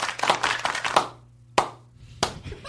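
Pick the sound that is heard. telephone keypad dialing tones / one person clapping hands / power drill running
one person clapping hands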